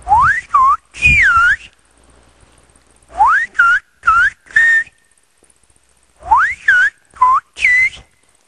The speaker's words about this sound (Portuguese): O professor explica que entender os assobios é muito fácil. Agora vou assobiar buenos dias, buenas tardes e buenas noches.